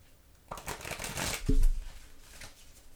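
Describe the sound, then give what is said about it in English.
A deck of transparent playing cards is riffle-shuffled: a fast, crisp flutter of snapping cards lasting a couple of seconds, peaking with a soft thump as the halves are pushed together. “All right, one last shuffle here.”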